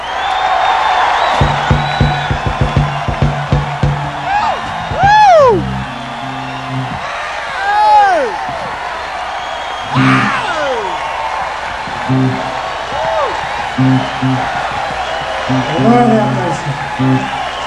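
A crowd cheers and claps in a steady, dense roar, with shrill whistles and rising whoops cutting through at intervals and a few thumping knocks near the start.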